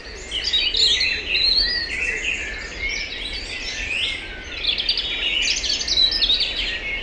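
A dense chorus of birdsong, many birds chirping and trilling at once in a steady, overlapping stream for the whole stretch, with a faint low background hum beneath.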